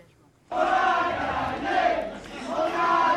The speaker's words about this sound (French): Ils s'embrassent, ils applaudissent, ils chantent aussi. Ils ont quand même du mal un peu à réaliser au tout début qu'ils viennent d'obtenir cette victoire si dure, si difficile, si longue à obtenir.